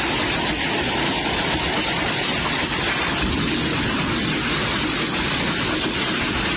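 Hail pelts a house in a loud, unbroken roar of dense, rattling impacts that stays steady for the whole stretch, with no voices heard.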